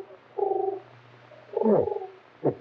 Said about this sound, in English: Pigeon on the windowsill. Yeah, it's looking for food.